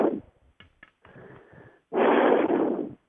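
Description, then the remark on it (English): A caller breathes right up against a microphone: a soft breath, a few faint clicks and a hum, then a loud, rushing exhale that blows across the mic for about a second. No one speaks. “I believe it's you is breathing in the microphone.”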